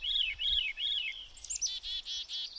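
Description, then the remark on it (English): Birdsong fills the air: three rising-and-falling whistled phrases, then a busy run of high, rapid warbles and trills. The singing is clear, with no voices. “None of us spoke while the songs of the birds poured undiluted.”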